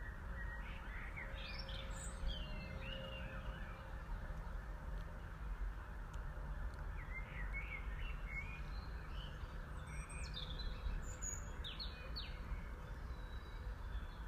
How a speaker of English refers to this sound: I came out here to record the birds, and all you can hear is screeching sirens.